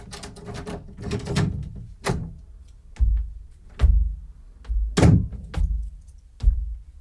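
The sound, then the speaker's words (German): A key rattles and clicks in a lock, followed by a series of solid thunks and knocks as Benjamin the elephant works open the door of a doctor's practice, with no voices. “Benjamin steht also vor der Praxistür mit dem Schlüssel in der Hand und freut sich und ist schrecklich aufgeregt.”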